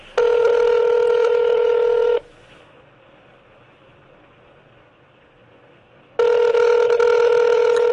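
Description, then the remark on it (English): Two long ringback tones on an outgoing phone call to a prayer helpline, each about two seconds of steady buzzing, separated by a few seconds of quiet line hiss; clear, with no one speaking. “Hey, it's ringing.”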